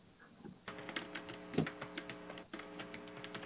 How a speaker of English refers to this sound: Who is typing? I don't know. It ain't me. Sorry, I'm helping someone with a question in the chat room.